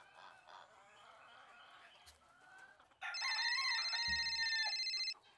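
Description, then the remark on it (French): After a few seconds of quieter, wavering calls, a loud, shrill alarm clock, a younger sister's alarm at home in an urban setting, bursts into rapid, buzzing rings for about two seconds, then cuts off abruptly. “Une sonnerie. Je connais ça. Le réveil de ma petite sœur.”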